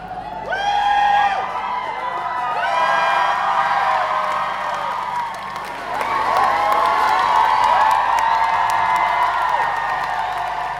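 A concert crowd of fans in Düsseldorf cheers loudly and steadily as the band comes on stage, with high-pitched screams and whoops rising above a dense roar, surging again about halfway through. No one speaks.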